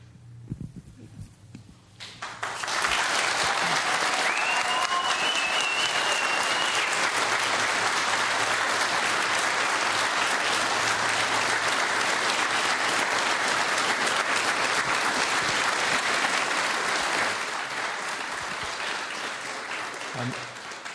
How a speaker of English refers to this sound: I'm going to give you one more opportunity to reward these folks with your applause, but we still have to pin their badges.